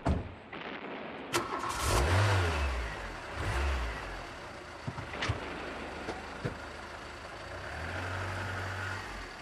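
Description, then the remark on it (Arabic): A car engine starts, revs up loudly in a few throaty bursts, then settles into a steady drone as the vehicle pulls away, with no voices heard. “هيا بنا هيا بنا يا بنات، هيا لنركب السيارة.”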